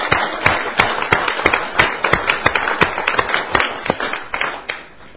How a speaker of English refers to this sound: May God bless you, leaders. Can we give a round of applause for our leaders?